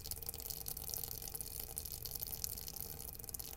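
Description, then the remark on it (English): Leaking water trickles and patters steadily inside a radio station office near a desk, a fairly quiet, continuous stream of small splashes and drips with a faint hiss, and no voices. “we do have our water dripping here at KMXT”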